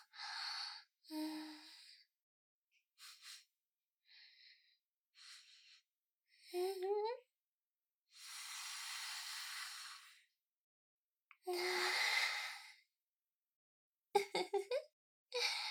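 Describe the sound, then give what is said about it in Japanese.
Breathy sniffing through the nose as someone smells: short quick inhales in irregular bursts, mixed with a few longer, louder exhales, with silent gaps between. “私の鼻息、くすぐったかったですか？”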